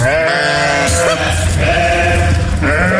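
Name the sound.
sheep (ewes) bleating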